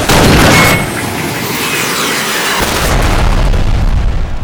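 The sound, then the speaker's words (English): Mount Ed's always-loaded blunderbuss, a mini-cannon, fires with a loud boom, followed by a sustained roaring rumble and crackle that fills the few seconds after the blast. No voices. “Mount Ed reached around for one of his always loaded blunderbusses.”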